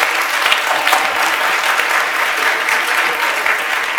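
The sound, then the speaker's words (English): A church audience applauds the church's C3 youth group: steady, dense applause, many hands clapping together in a continuous bright patter that holds at an even, fairly loud level for several seconds. “On peut les applaudir, vraiment.”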